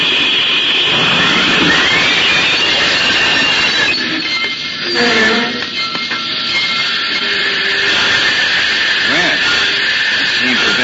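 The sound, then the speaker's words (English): A train grinds and rumbles steadily along the rails, with a broad, loud metallic roar and a brief dip midway as the brakes are applied after a red lantern is seen burning alongside the tracks. “Slap on the brakes, Jack.”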